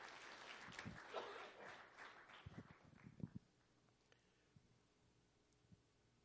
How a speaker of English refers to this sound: Come on, if you're going to clap, don't mess around.